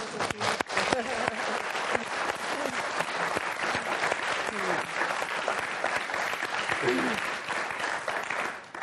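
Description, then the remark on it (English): A room full of people applauds steadily for several seconds, a dense, continuous patter of clapping hands that stays fairly even before tapering off at the end. “So I give you a clap.”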